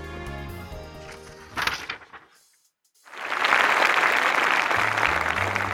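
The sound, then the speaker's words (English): Music plays, then after a brief silence a large audience bursts into loud, sustained applause for the magician Marvo the Magnificent, the dense clapping continuing steadily to the end with faint music returning beneath it. “The audience all began to clap.”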